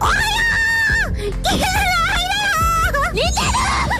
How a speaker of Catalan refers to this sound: I aquesta que xiscla és Kizuna Ai, una de les youtubers virtuals més famoses del Japó, amb més de 2 milions de subscriptors, creada el 2016, comenta notícies, dona consells de bellesa, prova jocs i crida molt, ja ho sentiu.